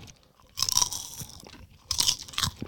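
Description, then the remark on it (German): Crisp crunching and chewing of a light, airy snack from a 70-gram bag, two bursts of brittle crackling with softer munching between, no talking. “Und es ist ein sehr leichter Snack.”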